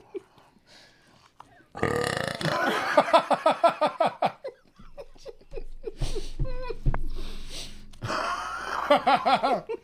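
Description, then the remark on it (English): Loud, drawn-out belches rumble one after another, each a throaty, croaking burst with brief pauses between, and no talking. “They're farting and burping all over the place where I sleep.”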